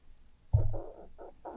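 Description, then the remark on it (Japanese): A low, gurgling stomach growl starts with a soft thump and rolls on in several uneven bursts of rumbling, fairly quiet, with no talking. “お腹の音がすごい鳴るよね今日。”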